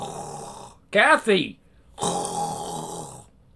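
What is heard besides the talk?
person snoring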